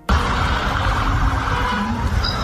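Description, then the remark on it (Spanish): Ambulance sirens wail as ambulances arrive at Huntington station in the United Kingdom to take people injured in knife attacks on a train to hospital, through a dense wash of traffic and street noise, the steady tones partly buried under the loud, continuous roar. No one speaks. “Así llegaban las ambulancias a la estación de Huntington, donde ha parado el tren para transportar al hospital a los 10 heridos, 9 de ellos graves por estos ataques con arma blanca.”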